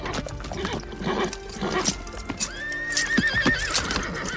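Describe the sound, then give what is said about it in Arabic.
A horse, just led out of its stable beside a palm tree, paws and digs at the ground in the sunshine, hooves thudding and scraping in an uneven rhythm; partway through it lets out a loud, wavering neigh over the scraping. “وقف الحصان وراح يحفر الأرض بسنابك حوافره، ثم طوى أذنيه الحادتين إلى الأمام تحت أشعة الشمس، كأن صوت حوافره وهي تضرب الأرض قد نزل على رأسه.”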